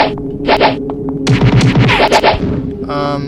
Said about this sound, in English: Alright, so what you're hearing, is a person coming towards me.